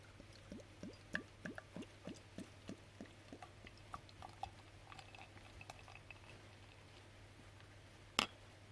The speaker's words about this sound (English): So it pours with a nice head, fairly gassy, a typical bitter look to it, nice golden brandy orange colour.